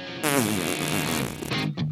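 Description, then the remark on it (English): A person blows a loud, buzzy raspberry, mimicking a long fart against a chair that sputters for over a second before a short final burst. “And he just farted. Like, listen. It was like up against the chair.”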